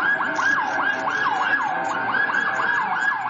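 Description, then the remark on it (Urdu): Ambulance sirens wail continuously, a rapid repeating rise-and-fall yelp that overlaps in layers, loud and steady against a low rumble of traffic, with no voices, as ambulances gather around a busy central public place in Istanbul, Turkey, after an explosion. “مناظر میں دیکھا جا سکتا ہے کہ دھماکے کے بعد ایک مرکزی مصروف عوامی مقام کے آس پاس ایمبولنسز کا رش بڑھ گیا ہے.”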